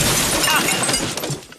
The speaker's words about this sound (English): The crate explodes through the door of the meeting room.